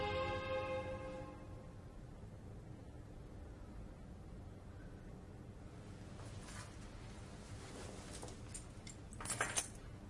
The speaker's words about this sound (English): The keys to the house and the car keys.